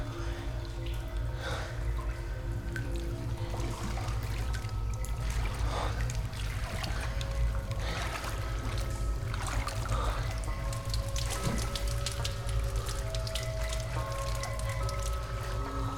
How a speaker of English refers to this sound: Delmar steps cautiously into the water, which comes up to his ankles. He moves carefully forward, shining the light on his gun ahead of him. The others follow.